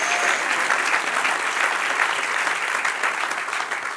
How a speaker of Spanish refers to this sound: Dale un aplauso al que vive y reina. Bendito sea su nombre.